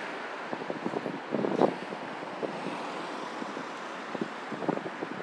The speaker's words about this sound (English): Oh, it's windy, cold. Not very pleasant at all.